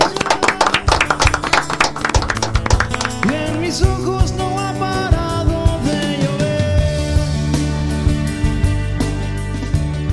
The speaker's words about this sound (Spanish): Bueno, con un aplauso terminamos el programa.